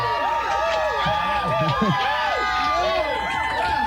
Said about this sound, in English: Rowdy crowd.